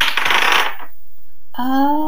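Dice are rolled on a table for dexterity saving throws during a tabletop role-playing game: a quick, bright clatter of small hard objects tumbling, then a short pause and a clear metallic ringing tone that lingers briefly. Fairly loud, with no talking.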